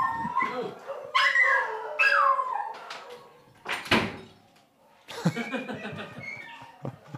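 Several dogs howl and yowl together in wavering, rising tones, then a door is closed with a sharp bang, after which the dogs' whining continues more muffled in the background.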